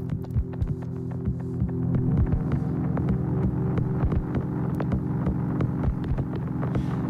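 A steady, low drone from a lone airplane's engine hums on without a break, throbbing slightly, with scattered sharp clicks and ticks from the plane's measuring instruments sounding over it throughout.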